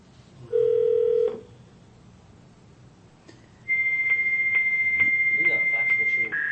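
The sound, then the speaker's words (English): Telephone tones as a local, not long-distance, number requiring an area code is dialed: a short, steady low beep, a brief pause, then a longer, loud high-pitched tone broken by regular faint clicks, with quiet background noise underneath. “Which number are we on? Because it's not long distance, but it requires an area code.”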